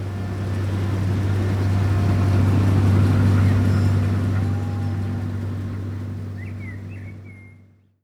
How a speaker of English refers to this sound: Then the farmers cut the wheat. Some farmers use a big machine.